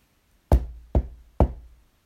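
Three sharp knocks on the door of a house, evenly spaced about half a second apart, each with a quick attack and a short decaying thud. No voices accompany them.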